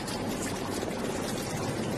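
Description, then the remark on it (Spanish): A steady, dense rush of flowing water, like a waterfall, fills the whole stretch at an even loudness with no pauses or voices. “Bueno, escuchamos porque aquí se oye el tráfico y de fondo el rumor del agua.”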